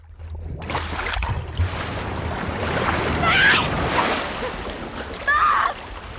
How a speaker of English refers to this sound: He's thrown around violently underwater and is hit by debris. He surfaces, gasping for air, and is washed away on the swirling water.